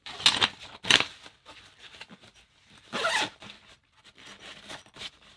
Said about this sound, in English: Zip everything up, and this has got MOLLE attachment points, so you can attach it on the side of your pack.